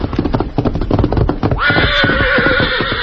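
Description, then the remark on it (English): Rapid hoofbeats pound for about a second and a half as the horse Victor gallops into camp and stops, then break off as he lets out a loud, long, quavering neigh. “Meantime, having returned to camp, the Lone Ranger and Tonto were preparing supper when Dan's horse, Victor, galloped in and stopped.”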